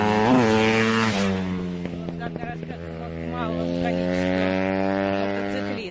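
Loud motorcycles without mufflers roar past for several seconds, the droning engine whine shifting pitch early on and crackling with rapid sputters midway before settling into a steady rumble.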